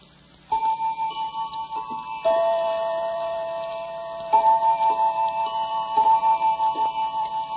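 A clock ticks in a steady, even rhythm, its beats ringing with a metallic, tonal edge. It sounds moderately loud, with no voices.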